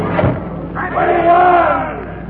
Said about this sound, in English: The dripping blade rises and falls, and the crowd counts in monotonous rhythm as each noble head rolls to the ground.